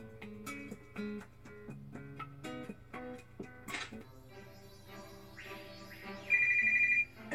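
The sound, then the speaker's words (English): A phone's text message notification tone, a bright, steady electronic chime near the end, loud, following a stretch of soft, plucked musical notes. No one speaks. “New text message.”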